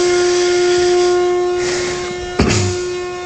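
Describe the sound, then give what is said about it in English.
A coffee maker brews a pot of coffee with a steady, fairly loud hiss of steam and a sustained whistling tone, broken by a brief sharp gurgle or sputter near the end. “And within 15 minutes or so, you'll have yourself a pot of coffee. and we'll just walk away from it here because it's interfering with my recording.”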